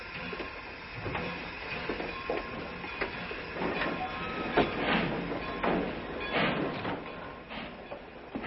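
A passenger train pulls away on its rails: a steady, wide rumble punctuated by irregular metallic clacks and squeaks from the wheels, with no voices.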